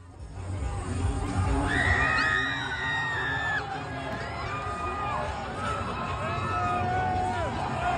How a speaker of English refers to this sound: The woman screaming is like while they're flipping the car